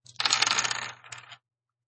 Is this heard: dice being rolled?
yes